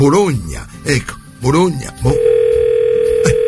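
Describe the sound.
A man speaks briefly, then a steady, clear telephone ringing tone begins on the line, a single sustained beep-like hum continuing to the end, fairly loud and close.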